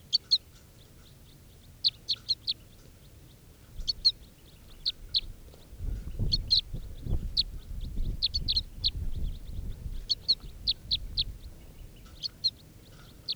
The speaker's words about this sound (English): And these are the begging calls of, oh, I got a crossbill with a net now, it's an orange male. And this is the begging of bird 432.